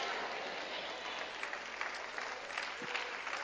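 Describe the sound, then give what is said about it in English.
A crowd claps steadily, a dense wash of applause that holds at an even level from start to finish with no voices standing out. “Let me thank all five of y'all that y'all keep clapping.”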